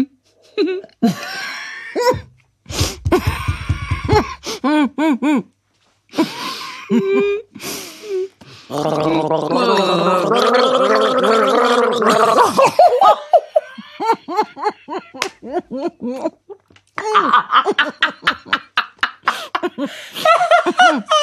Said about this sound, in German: Komm, wir gurgeln mal zusammen. Welche machen wir denn?